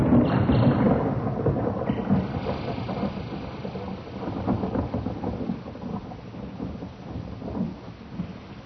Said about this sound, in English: How long have I been lying here? Listening to the rain.